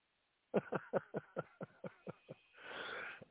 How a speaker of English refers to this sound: Sorry about the cough. You're just going to have to deal with it because I'm not going to mute every time I cough.